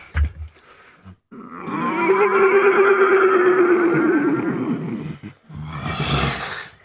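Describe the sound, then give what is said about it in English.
A person imitates a horse's nicker with a long, fluttering, throaty call that holds steady for about four seconds, followed by a brief breathy burst. It is fairly loud. “So something like a nicker, for example. What is a nicker? It's a way of a horse saying, hey, how you doing?”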